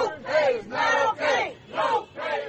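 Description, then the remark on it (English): Dozens of protesters, including fast food workers and union members, shout in unison in front of a Church's Chicken restaurant in Atlanta. Loud rhythmic chant bursts repeat about five times in quick succession with brief pauses between each, and the voices blend into a raised, strained roar. “Dozens of protesters shouted and held signs in front of the fast food restaurant.”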